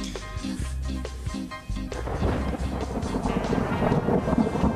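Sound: thunder rumble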